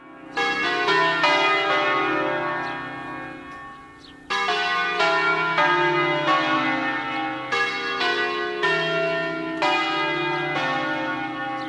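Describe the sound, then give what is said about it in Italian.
A peal of church bells rung in the Ambrosian style: heavy, resonant strikes with long ringing overtones that overlap and swell, loud, with no voices. “Ascoltiamo un concerto di campane all'ambrosiana.”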